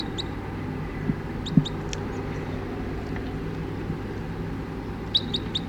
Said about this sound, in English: 20 crossbills just sat down in the trees here, and it's about 9 o'clock now, and one of the birds, an orange male, is in the net.